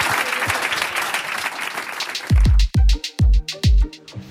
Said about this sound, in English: Big applause for Amy Webb.